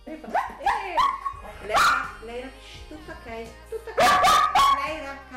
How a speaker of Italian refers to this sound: La registrazione è stata più volte interrotta da uno dei suoi cani.